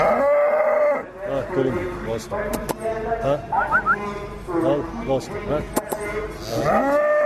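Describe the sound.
A cow moos loudly, with long drawn-out lowing calls at the start and end. In the stretch between them, a farmer's voice talks to the cow, in Abrotz.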